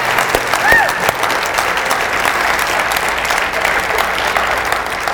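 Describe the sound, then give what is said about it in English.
An audience claps steadily in praise, a dense, sustained burst of hand clapping with crowd murmur, staying loud and even throughout with a brief higher-pitched whoop early on. “Let's give it one more hand clap of praise.”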